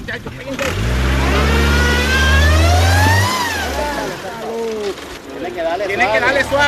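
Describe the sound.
A car engine revs hard and loud, its pitch climbing in a long strained whine as the wheels spin, then dropping off; voices murmur faintly in the background.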